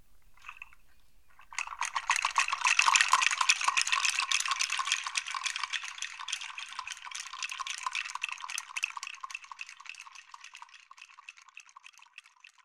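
Small metallic chimes rattle and jingle inside a little heart-shaped container, shaken in a steady busy flurry of bright, high tinkling that starts after a soft tap and gradually thins out. No one speaks.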